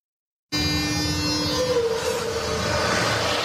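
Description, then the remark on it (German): A passenger train on the double-track Prague–Ostrava line in the Czech Republic rolls along the rails, a steady loud rumble with sustained tonal hum and faint squealing overtones, starting abruptly after half a second of silence. “Täglich begegnen sich die blauen Züge der tschechischen Bahn und die gelben Waggons von RegioJet mehrfach auf dem zweigleisigen Schienenstrang.”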